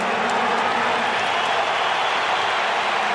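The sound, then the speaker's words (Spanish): A dense, steady roar from a stadium crowd, with scattered shrill whistles of disapproval cutting through the wash of noise as the fans greet Raúl Jiménez, number 9, entering the pitch. It lasts about three seconds, and no one speaks over it. “Lo recibieron con chiflidos”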